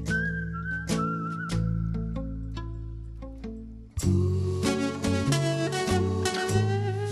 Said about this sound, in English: Now, does your dad also whistle on the instrumental? No. That's me, a couple tracks of me, but the whole whistling thing is, he's whistled a lot when we were kids, and I think the whole whistling thing came from him, the fondness for it.